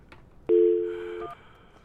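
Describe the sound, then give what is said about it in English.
A telephone dialing tone as a call is placed to Up All Night at Co-op Radio in Vancouver, British Columbia: a steady low two-note hum lasting under a second that fades slightly, followed by a brief higher blip. No one speaks. “We're trying to call Brett from Up All Night at Co-op Radio in Vancouver, British Columbia.”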